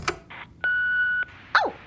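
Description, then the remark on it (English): An answering machine's electronic beep before playing a new message: a click and short burst, then a steady, clear high tone lasting about half a second, followed by a quick downward-sweeping chirp. Fairly loud, with no talking. “A new message on the answer phone.”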